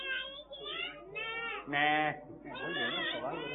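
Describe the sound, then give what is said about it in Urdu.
A person mimics a goat's bleat with a series of wavering, nasal vocal bleats, the loudest and most sustained one in the middle, clear. “میں تو بکری کرتی ہے.”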